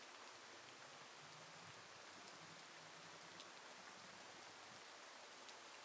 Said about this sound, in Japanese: 雨音、うっすらと聞こえますね。あなたの耳には、雨音、どのように聞こえますか？